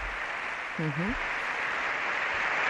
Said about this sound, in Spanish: Aplauso de todos los presentes.